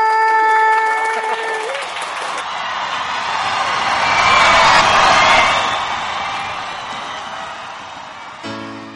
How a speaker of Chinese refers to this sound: 今天也要非常谢谢引领启航的领航员，也是交通部航港局的叶协龙局长陪伴我们大家，我们是不是要给他一个最大的掌声？